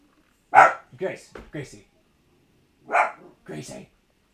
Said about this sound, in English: Someone's at the door and she's barking at him.